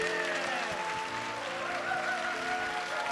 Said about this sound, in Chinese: 拍手，将最大掌声归给我们的神。阿门。